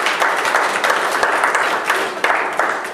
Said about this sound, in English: Give the Lord a hand of applause if that's you.